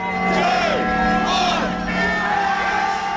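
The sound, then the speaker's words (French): A dense crowd of pro-Brexit supporters in London cheers and shouts continuously at 11 pm as 'We are out' appears on a giant screen, with red-tinted flare smoke overhead; rising and falling whoops and yells layered over a steady roar of many voices. “Dans le ciel de Londres, c'est la valeur, les fumées teintées de rouge des fumigènes et les cris de la foule.”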